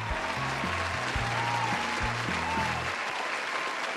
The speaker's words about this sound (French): Je vous demande d'applaudir chaleureusement le professeur émérite de l'université de Stockholm